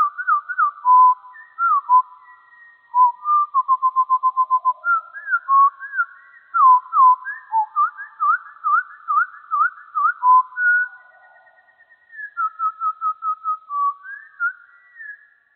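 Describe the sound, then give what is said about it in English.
Birdsong slowed to a quarter of its speed: a long, unbroken run of low, whistly swooping notes and drawn-out trills, steady in loudness, with no voices over it. “Now, here's the same song played at 1/4 the speed, so you can appreciate its complexity.”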